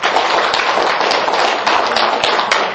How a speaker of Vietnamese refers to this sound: Cho bác một tràng pháo tay.